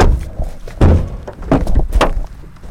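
Three heavy, hollow knocks on the wooden door of Judge Robert Folks's house in Mississippi, spaced unevenly about half a second apart, fairly loud with no one speaking.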